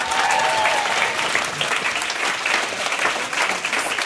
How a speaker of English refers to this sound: Thanks, y'all. Woo! Cool. And now, keep that applause going for Dinez Smith!